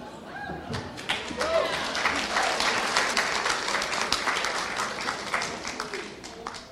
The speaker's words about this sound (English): I would like to hear a real good round of applause for a woman who has done huge and amazing work for Sunstone, young woman with an old soul who has contributed vastly. I want to hear it now.